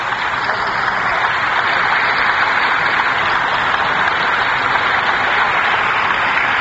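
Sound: chamber applause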